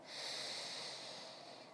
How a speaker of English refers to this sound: Breathing in